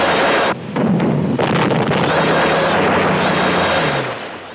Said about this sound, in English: The plane flies through the bursts of flak.